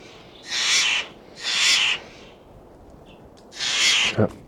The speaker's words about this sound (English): Just a couple of Steller's jays here, scared them off.